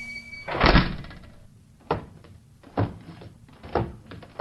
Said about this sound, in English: Close the door behind you